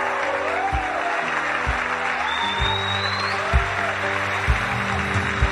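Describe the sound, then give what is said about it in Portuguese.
An audience applauds God in worship in a dense, steady wash of clapping that lasts throughout, over sustained musical tones and soft, regularly spaced low thuds. “Alguém que celebre e aplaude o Eterno aqui.”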